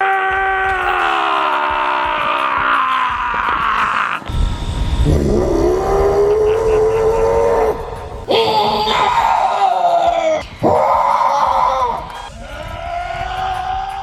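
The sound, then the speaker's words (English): People at a Sasquatch calling contest imitate Sasquatch calls with long, loud, strained howls and bellows, several in succession, each wavering and sliding in pitch, some rising into raspy, scream-like wails. “This is also an all-timer, the old Sasquatch calling contest.”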